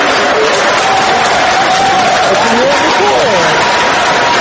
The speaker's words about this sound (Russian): После объявления результатов экзит-полов члены избирательного штаба и сторонники партии «Гражданская платформа» приветствовали своего лидера Дональда Туска громкими овациями.